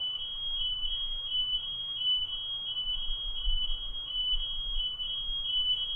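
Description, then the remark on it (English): A smoke alarm sounds continuously, its piercing high-pitched tone pulsing in quick repeated beeps for the whole stretch, steady and fairly loud over a low background rumble. “Open up in our awareness to embrace even the alarm with loving kindness, accepting it, not being annoyed or irritated by it.”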